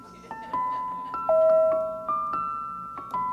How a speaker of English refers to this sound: Tinkling tunes propagate from loudspeakers on trucks distributing pop, ice pops, blow pops, as well as modern confections injected with a creamy filling.